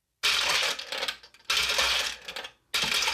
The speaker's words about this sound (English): you have to press a little lever that dispenses marbles into your side